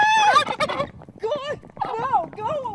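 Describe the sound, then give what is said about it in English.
A wild turkey gobbler in Sacramento, acting aggressively toward a TV news producer, gobbles: a loud, rapid, rattling burst followed by three shorter warbling, wavering calls, each rising and falling in pitch, with no talking. “The gobbler gets aggressive.”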